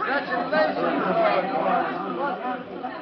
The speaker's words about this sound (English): Jubilantly, Perry White, Jimmy Olsen, employees of the Daily Planet, and spectators crowd around Lois, congratulating her on her complete vindication as Superman and Robin slip from the courtroom.